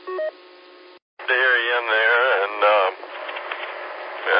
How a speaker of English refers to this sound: Yeah, our radio didn't sound too bad. You got a little white noise, but anyway, I hope you find your problem there.